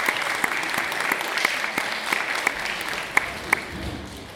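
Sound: clapping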